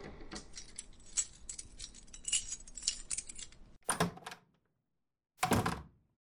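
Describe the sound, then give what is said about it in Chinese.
A few seconds of light metallic jingling as the keys to room nine are shuffled and handed over, followed by two louder solid thunks with a short pause between them. No voices. “好的，请两位前往九号房间，这是钥匙。”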